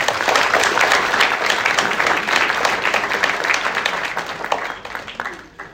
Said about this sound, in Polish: Brawa dla niego.